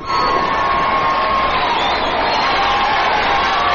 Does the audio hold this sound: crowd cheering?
yes